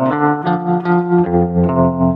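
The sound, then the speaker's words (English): Electric guitar notes played with a pick near the bridge, run through a spring reverb placed before a tremolo, soaked in splashy spring reverb with a pulsing tremolo that makes the sustained chords swell and dip. Fairly loud, no voices. “I needed the knowledge of, oh, wow, you put a spring reverb in front of a tremolo and you pick your instrument in this certain kind of way.”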